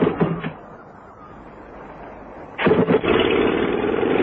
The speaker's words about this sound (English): Now start the engines, please, Wilkins.